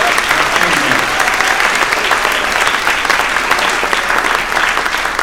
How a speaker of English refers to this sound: And of course, one more round of applause and amens for God himself. Praise the Lord for what he has done today.